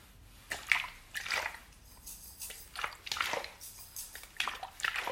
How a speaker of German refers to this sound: Nun hören sie das Meer deutlich. Wellen plätschern ruhig, aber kraftvoll an den Strand. Sie bewegen die kleinen Kiesel am Ufer.